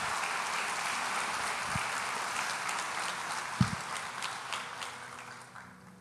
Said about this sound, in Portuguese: E a igreja em concordância diz, amém. Aplauda ao Senhor mais uma vez.